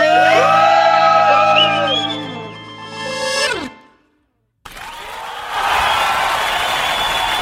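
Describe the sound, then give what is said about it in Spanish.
A loud group of friends in Penco shouts and whoops together in a burst of cheering while secret-friend gifts are handed out, breaks off into a moment of silence, then erupts again into sustained crowd yelling. “Aquí van a dar un grito todos sus amigos”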